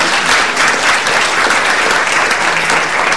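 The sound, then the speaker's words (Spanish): A standing audience applauds steadily, a dense, sustained wash of many hands clapping at a constant loud level with no pauses and no voices rising above it. “Todos de pie le aplaudieron”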